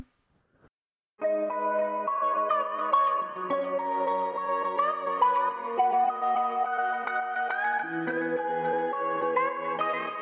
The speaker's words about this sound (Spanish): Una gira con un nombre que de hecho es el título también de la canción que vamos a escuchar ya mismo de este combo bilbaíno, una auténtica maravilla